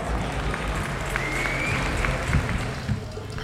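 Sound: applause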